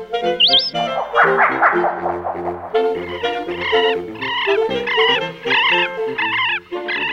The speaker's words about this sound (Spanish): La diuca. La diuca es una de las aves más abundantes y conocidas del territorio, ya que se encuentra en gran número y durante todo el año. Su figura característica de aspecto robusto y cola larga se puede ver en todo tipo de ambientes, en campos,